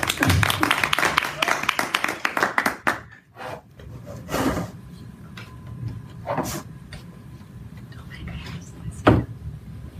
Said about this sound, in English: Please help me welcome him to appear, and let's clap.